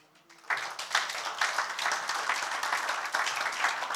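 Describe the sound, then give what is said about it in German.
Audience applause, given as applause to God, bursts in after a brief quiet start, a dense, steady wash of many hands clapping that holds at a fairly loud level to the end. “Und jetzt könnt ihr Gott einen Applaus geben, weil er macht keine Fehler.”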